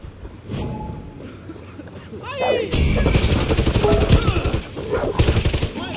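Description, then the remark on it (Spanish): Rapid video game gunfire crackles in dense, loud bursts, with a few sharp barks from dogs, the player's in-game pets, mixed into the chaotic noise and a voice faintly underneath. “Perros de hecho.”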